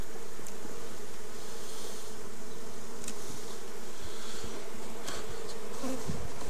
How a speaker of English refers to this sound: Got one bee inspecting me, as you could probably hear the buzzing.